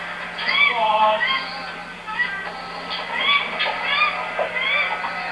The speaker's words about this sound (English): Some birds there too making noise.